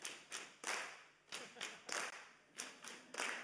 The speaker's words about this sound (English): I'm going to count you in. We're going to go 1, 2, 3, 4. Slap, slap, clap. Slap, slap, clap.